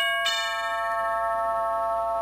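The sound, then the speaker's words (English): A doorbell at a house on Stevenson Avenue chimes once with a bright, ringing tone that starts sharply and sustains, slowly fading across the rest of the moment. It sounds clear, with no talking. “The doorbell rang at 39 Stevenson Avenue.”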